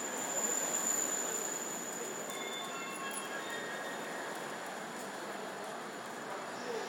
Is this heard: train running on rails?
yes